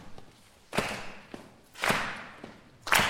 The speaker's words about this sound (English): would start this clapping beat.